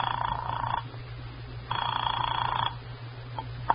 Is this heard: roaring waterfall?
no